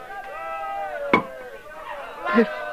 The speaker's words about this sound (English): Then a soldier took the hammer and spike and started to drive the spike through Jesus' feet.